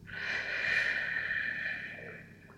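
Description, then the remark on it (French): A slow, steady exhale through the mouth after a deep breath in through the nose, part of a guided relaxation session: an airy breathy rush lasting a couple of seconds that swells slightly and then gently fades out, with no talking. “Prends une profonde inspiration par le nez en gonflant le ventre et la poitrine. Expire doucement par la bouche.”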